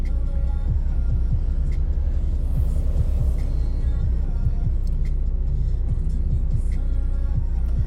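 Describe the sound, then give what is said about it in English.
Steady low engine rumble and road noise fill the cabin of a car whose driver is trying to turn left in heavy traffic, with faint passing traffic and occasional soft clicks over a constant droning hum, no one speaking. “I'm supposed to be turning left, but there's so much traffic.”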